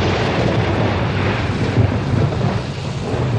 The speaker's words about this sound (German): Oh oh, ein Unwetter. Hey, wir gehen einen Unterstand suchen, ich verfriere fast.